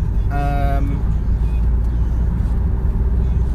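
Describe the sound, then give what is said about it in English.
A car braking on a 60 mph road marked slow, dropping to 30 mph: a short, bright harmonic squeal near the start rises over a steady, loud low rumble of tyres and engine that continues throughout. “And here come the brakes. We're braking for no particular reason whatsoever, other than it says slow on the road, so we're now down to 30 miles per hour on this 60 miles per hour road.”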